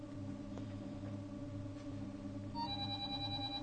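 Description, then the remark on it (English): A mobile phone starts ringing near the end, a bright, warbling electronic tone with rapid pulses, over a steady low hum and no talking. “You say turn my phone off.”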